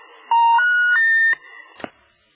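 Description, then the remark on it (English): A telephone line left off the hook sounds a loud three-note electronic tone rising step by step in pitch, followed by a couple of faint clicks, with no voices present. “Forgot to hang up the phone.”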